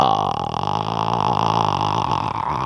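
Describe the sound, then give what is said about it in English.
A voice imitates a ghostly death rattle: a loud, low, guttural croak held steadily for a few seconds with a wavering, strained tone and no words. “But when she answers, she hears the death rattle.”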